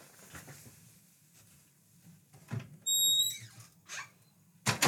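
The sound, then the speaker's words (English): A door is opened to let a cat out: a soft click, then a brief high-pitched hinge squeak, followed by shuffling and a sharp clunk at the end. No one speaks. “That was me letting the cat out.”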